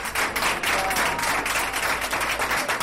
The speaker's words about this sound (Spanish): En la salida de su habitación, en ese emocionado aplauso, puede verse a enfermeros, auxiliares, médicos, celadores.